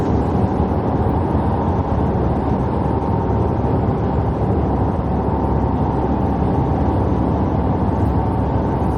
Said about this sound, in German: Wir fahren jetzt gerade auf einem E-Highway.